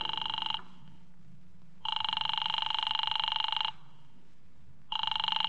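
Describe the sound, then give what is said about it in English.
A telephone rings over and over in long, buzzing bursts separated by short pauses, steady, with no one picking up and no voices; a call to Diamond's office that goes unanswered. “His office don't answer.”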